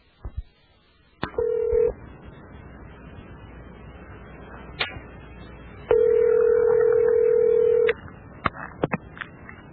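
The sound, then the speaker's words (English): Clicks and dialing tones as a phone number is entered, followed by a steady ringback tone on the line, with a second longer ring after a pause, all fairly loud and with no talking. “I tried to call that guy to get him on this show, and I'm going to play you now what I got.”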